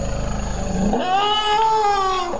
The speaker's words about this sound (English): The rumbling voices of forest elephants.